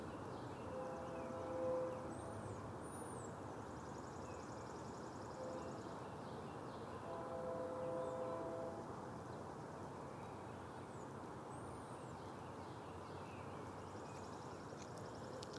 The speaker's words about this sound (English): Trains making its way through several crossings as it gets into downtown Franklin.